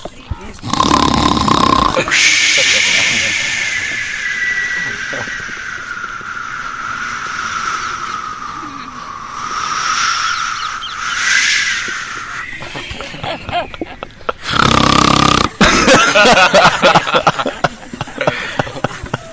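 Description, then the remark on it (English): A voice imitates the loud, drawn-out snoring of Krishna, told as a bloated boatman sleeping deeply on the floor of a boat after eating butter and yogurt: a long rasping snore rising and falling for several seconds, framed by brief bursts of noisy breath or speech at the start and end. “So Krishna's snoring away, deep, deep in sleep.”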